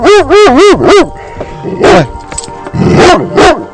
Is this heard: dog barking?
yes